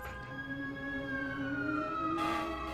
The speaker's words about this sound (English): Hearing the fire truck, Rex looks out towards the balcony, then back at the three pouting poodles.